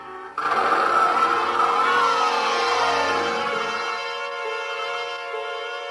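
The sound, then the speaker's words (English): A milk truck's engine suddenly roars to life and runs steadily, loud, its droning hum easing slightly as it begins driving off. No voices. “The light at the other end turned out to be a milk truck without a driver.”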